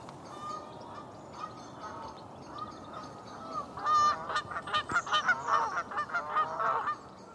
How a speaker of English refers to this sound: and they'll write in and tell us what these calls are, but I'm going to stick my neck out and say that might be a Canada goose.